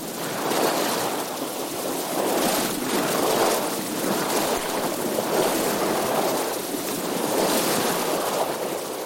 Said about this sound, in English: Just the wind and the faint swish of the bows. For an hour or so, I sailed west across the sparkling sea, out to the end of the Dingle Peninsula.